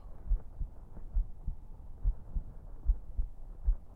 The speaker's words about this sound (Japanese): 心臓の音ですか？いいですよ。私の鼓動でよければ、好きなだけ耳を当てていてくださいね。